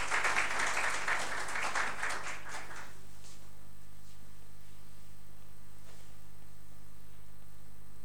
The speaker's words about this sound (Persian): لطفا تشویقشون کنید تشریف بیارن. ممنون.